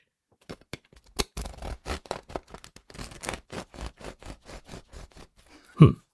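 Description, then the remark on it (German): A knife saws back and forth through a crusty bread roll in quick, rhythmic, scratchy strokes, about twenty in all, followed by a single louder thud at the end. “Und ich säge hier einfach mal und bin sehr gespannt, ob man das dann hört.”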